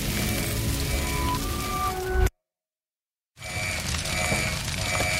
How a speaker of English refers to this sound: Boy, the kitchen's on fire!